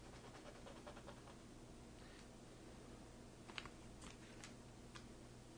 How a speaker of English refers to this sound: So I'm just going to draw a few vertical lines along one side of the wall.